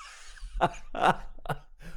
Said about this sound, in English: I'm coughing, laughing.